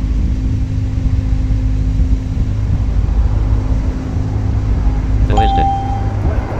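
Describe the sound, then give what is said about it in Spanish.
A steady low mechanical hum drones throughout, then near the end a video-game door sound cuts in: a quick rattling burst followed by a short, steady mid-pitched tone. “Y fíjense ahora lo que se va a oír. Hablábamos de las puertas.”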